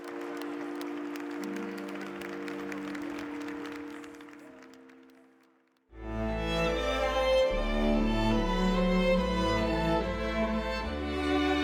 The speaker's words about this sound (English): Buona Domenica delle Palme. Buona Settimana Santa. And the crowd filled the square with its cheers.